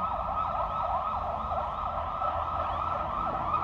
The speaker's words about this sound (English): But my goodness, we have a noisy setting for... That's a burglar alarm, I think. Yeah.